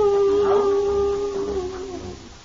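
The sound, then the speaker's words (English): Hounds baying in a long, drawn-out howl that holds a steady, mournful pitch, with a second rising cry joining midway, fading slightly toward the end. No one speaks. “Two men make their way across the windswept, rain-spattered moors to the accompaniment of hounds baying in the background.”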